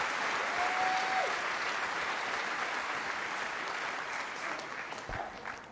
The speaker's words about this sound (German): Und da gibt es nochmal einen großen Applaus aus dem Saal.